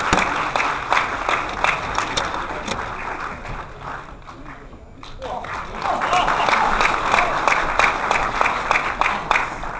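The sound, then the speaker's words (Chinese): An audience claps steadily and warmly to welcome Peking opera performer Mr. Kang to give a lecture, a dense wash of applause that dips briefly midway before swelling again, loud and sustained throughout with no speech over it. “下面让我们以热烈的掌声欢迎康先生为我们做讲座。”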